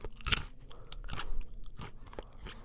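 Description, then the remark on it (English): Crunching on a roasted peanut with sea salt: several sharp, crackly bites followed by softer chewing, the brittle snaps arriving irregularly over a couple of seconds with no talking. “That was a peanut, a roasted one, with sea salt from the New World.”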